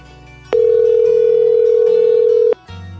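phone line disconnected

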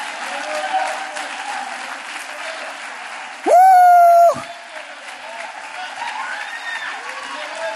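audience clapping hands

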